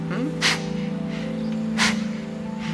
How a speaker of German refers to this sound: Okay, also wir sitzen aufrecht, umfassen die Knie und mit einer etwas forcierten Ausatmung ziehen wir den Nabel nach innen. Wir atmen nur durch die Nase.